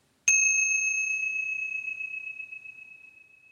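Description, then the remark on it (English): A single clear bell strike rings out and sustains with a bright, pure tone, slowly fading over several seconds in an otherwise quiet space. “taking the ring of the bell as an invitation to close your eyes.”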